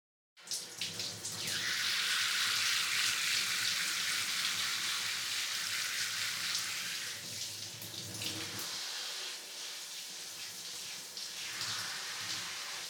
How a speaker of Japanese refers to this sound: はい、シャワーの方失礼させていただきますね。